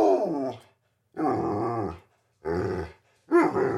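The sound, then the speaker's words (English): A dog named Bear, lying in bed, groans and grumbles in four low, drawn-out bursts separated by short pauses, fairly loud, with no one talking. “You're on in bed with the dog, and we can start.”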